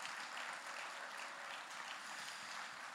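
Sustained applause from an audience, a dense, steady wash of many hands clapping at once with no pauses, filling the whole stretch without any voices over it.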